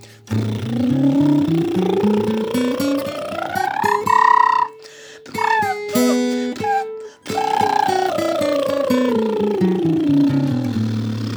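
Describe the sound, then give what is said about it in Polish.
A bubbling vocal warm-up to relax the voice, done as an 'elevator' from bottom to top and top to bottom: it glides steadily upward in pitch, breaks into a few short higher bubbling notes, then slides back down from high to low, loud and continuous. “Rozluźnijmy teraz swój głos. Na bulgotaniu.”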